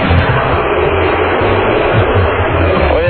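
A tractor engine in neutral revs with a loud, steady, rough roar over a throbbing low rumble, the pitch lifting slightly near the end; the sound is harsh and muffled, heard over a phone line from a caller out at the tractor.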